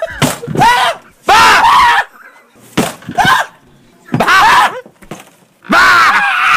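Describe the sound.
A door is kicked in again and again, several loud bangs, each followed by loud screaming or yelling voices, with short quiet gaps between the bursts.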